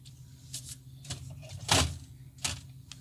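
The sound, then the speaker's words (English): Someone digs through the groceries inside a refrigerator, picked up by a microphone in the fridge: a few irregular clunks, rattles and shuffling knocks, the loudest midway, over a steady low hum, with no talking. “As we check in on the fridge mic.”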